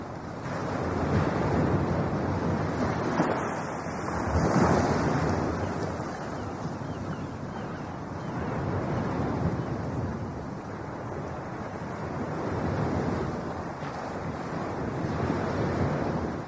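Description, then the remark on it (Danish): Sea waves wash and roll continuously in broad, steady surges, with gusts of wind buffeting the microphone throughout. No voices are present. “Kan du høre havet, Jan?”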